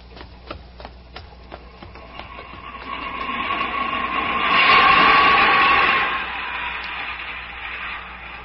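An underground train in a tube station: rhythmic wheel clicks give way to a swelling roar with a steady metallic whine, loudest midway, then easing to a continuous rumble. No voices.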